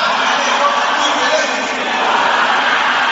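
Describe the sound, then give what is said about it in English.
A large crowd of women shouting together in a loud, continuous roar of overlapping voices, a dense wall of fervent group prayer with no single voice standing out. “Sisters, can I hear you shouting it?”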